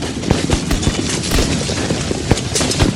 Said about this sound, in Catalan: Què passa? Què? Això també és un tio parlant? No, això... Són trets.